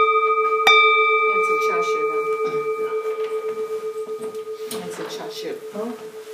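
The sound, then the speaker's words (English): Two meditation bells are struck in a zendo, the clear tone ringing out and slowly fading with a gentle pulsing shimmer, while people talk quietly over the lingering resonance. “And as soon as I walked out of the zendo, you would hit two bells.”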